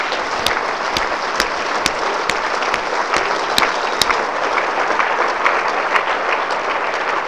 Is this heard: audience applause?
yes